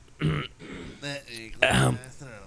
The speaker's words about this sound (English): Hold on. I have to clear my throat a little bit because that's my problem. My throat.